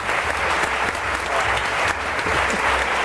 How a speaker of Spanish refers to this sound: Un aplauso para él.